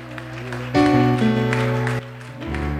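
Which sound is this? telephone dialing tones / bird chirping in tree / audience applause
audience applause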